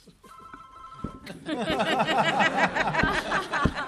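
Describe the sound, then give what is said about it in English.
A cell phone ringtone chirps with bright, steady electronic tones for about a second during a senate committee hearing, then a room full of people breaks into laughter and murmuring chatter that fills the rest. “Seriously, I'll take a look and see if you have your cell phone disconnected.”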